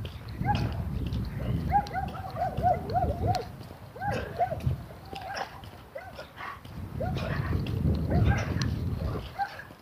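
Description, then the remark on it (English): Dogs yip and whine in quick bursts over a low scuffling rumble, seemingly playing rough with each other, continuing steadily without any talking. “Dogs. Can you hear them?”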